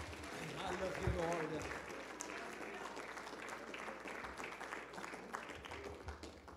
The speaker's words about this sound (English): Can we raise our hands and clap our hands to the Lord? Let's give him praise and glory and honor in the name of Jesus.